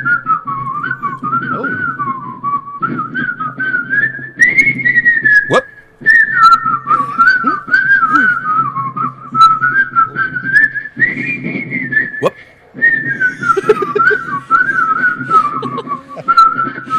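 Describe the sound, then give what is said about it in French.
A lively whistled melody from a record runs quickly and continuously, with rapid trills and pitch swoops over a steady backing accompaniment, loud throughout with only brief pauses. “qui lui siffle plus vite et de manière plus dynamique.”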